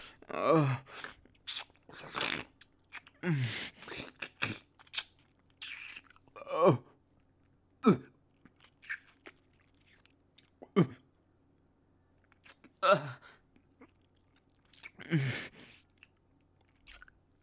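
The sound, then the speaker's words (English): Wet slurping mouth noises of a partner sucking on a man's testicles, moderately loud, arrive in irregular bursts separated by short quiet gaps, with a few soft throaty murmurs mixed in. “I love slurping on your balls.”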